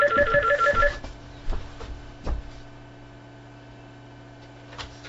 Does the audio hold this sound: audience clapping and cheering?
no